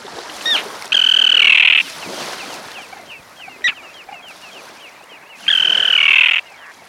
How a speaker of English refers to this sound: For example, consider the terns. The common terns you're hearing have long pointed bills they use to catch small fish.